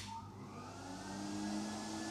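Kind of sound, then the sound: household object, vacuum cleaner running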